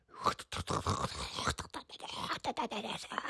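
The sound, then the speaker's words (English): A voice imitates heavy rain with a dense, continuous hissing and crackling noise, broken into rapid irregular bursts for about three seconds, fairly loud throughout. “That's really good heavy rain.”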